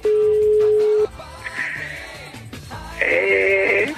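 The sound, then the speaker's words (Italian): A telephone sounds loud: a steady electronic tone for about a second, then two bursts of high, warbling ringing separated by a short pause, with no voices. “Quando squilla un telefono?”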